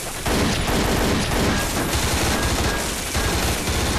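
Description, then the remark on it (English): Loud, sustained automatic gunfire from soldiers' gun positions aboard the Odyssey, fired at advancing replicators, rattles on for about four seconds, rapid overlapping shots merging into a dense, continuous barrage with no voices. “They fire, shattering the advancing creatures.”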